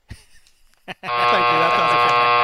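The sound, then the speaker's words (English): A loud, harsh game show buzzer kicks in after a second of near silence and a couple of soft taps, then holds one steady, rasping tone to the end. “What, you buzzed about that one?”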